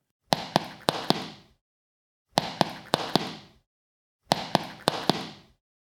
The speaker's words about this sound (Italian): Fa così. Fa lo stesso rumore delle scarpe sulla pietra qui sotto. Senti un po'.